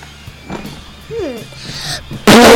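A short, squeaky fart with a rising then falling pitch, followed moments later by a sudden loud, harsh burst of noise.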